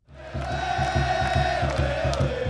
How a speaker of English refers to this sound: Here at Quest Field, where the Sounders play, the place has the feel of a World Cup soccer final. Every seat is sold out, and the cheering is deafening.